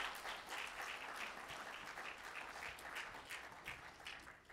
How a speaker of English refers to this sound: Is that okay to clap? Is that okay?